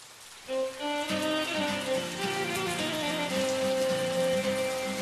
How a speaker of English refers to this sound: He noticed outside it was raining again.